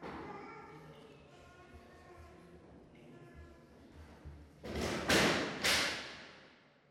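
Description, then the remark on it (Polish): A person talks quietly, then a chair topples over with a loud clattering crash: two heavy thuds in quick succession, ringing briefly before fading. “I pod Jego opieką jesteśmy bezpieczni, nawet jeśli krzesła się przewracają.”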